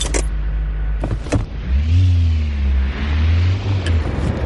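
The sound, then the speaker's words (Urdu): A loud turbocharged engine of a Volvo Drive-E car, with three turbochargers giving 450 horsepower, revs up with a rising whine, then holds a strong steady drone, preceded by a few sharp mechanical clicks at the start. “Volvo drive ای نامی کار میں ایسے تین تین ٹربو چارجر ہیں اور اس کے انجن کو 450 ہارس پاور کی طاقت دیتے ہیں.”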